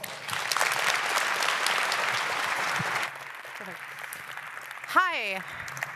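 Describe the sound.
An audience claps steadily for about three seconds, a dense crackle of many hands, then the applause stops abruptly and a voice speaks briefly near the end.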